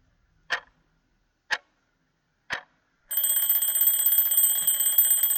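Three sharp ticks spaced a second apart, then an alarm clock bell bursts into loud, continuous metallic ringing that rattles on steadily until the end.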